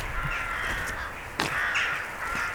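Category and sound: bird, rook cawing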